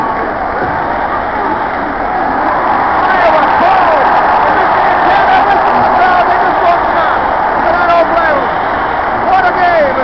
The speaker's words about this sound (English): The crowd is going absolutely crazy. They're on the field. They are bobbing everybody.